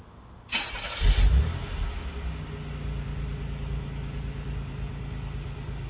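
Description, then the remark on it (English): A car engine cranks briefly and catches, surging loudly before settling into a steady idle rumble with no one speaking. “What I'm going to do is start the car and then gun the engine a few times.”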